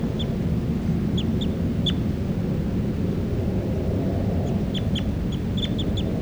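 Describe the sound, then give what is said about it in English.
A recording of bird number 383 calling loudly: short, sharp high-pitched chirps in scattered bursts, some doubled, over a steady low rumbling background noise. No one speaks. “It's a recording, this is bird 383 calling louds.”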